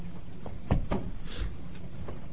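A chair being pulled up at a hearing as the microphones are shifted around: a couple of dull wooden thumps and a short scrape, followed by a softer knock, over faint background noise with no talking.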